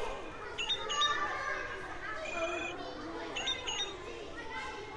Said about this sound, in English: There's a song thrush. Oh. They have repeated songs.